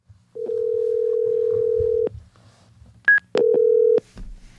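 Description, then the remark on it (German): A telephone dialing tone sounds clearly at the start of a phone call: one long steady beep, a brief higher blip, then a shorter beep, with faint low background noise and no talking. “Das Gespräch findet aufgrund der Sicherheitslage am Telefon statt.”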